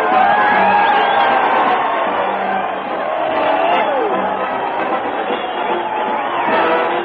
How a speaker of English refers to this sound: Listen to that crowd cheer Fred Allen as he heads his weekly parade to the old Town Hall.